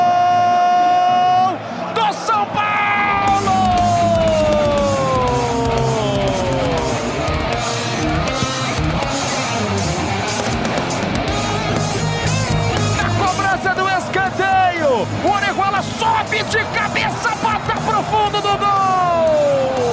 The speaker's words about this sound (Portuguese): A torcida do São Paulo em festa, é gol do São Paulo!